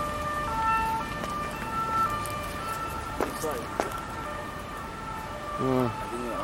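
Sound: ambulance siren passing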